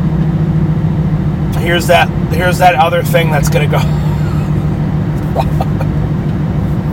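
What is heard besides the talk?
car driving in traffic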